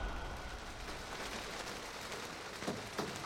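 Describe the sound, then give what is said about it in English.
Steady rain hisses as an even, continuous wash of noise, with a few sharper drips or taps near the end, falling outside the window of a hut at Tongariro National Park in New Zealand. No voices are heard. “Rain falls outside the window of my hut quarters.”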